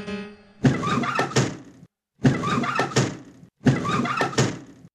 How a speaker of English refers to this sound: Knock, knock. Hello! Is anyone up in there?